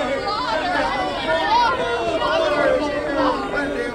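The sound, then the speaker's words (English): A crowd of men, women, and children chattering excitedly as they hurry to springs of water, many overlapping voices forming a steady, loud babble with lively rising and falling tones throughout. “Men, women, and children in joyous haste crowded to the springs.”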